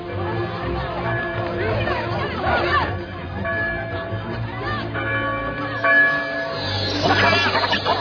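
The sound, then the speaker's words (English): An alarm bell rings steadily throughout, its tones ringing out over a busy crowd of overlapping voices and general commotion. “The alarm bell has been activated!”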